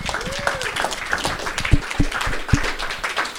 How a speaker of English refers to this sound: Could we give another big round of applause for these 3 speakers, please?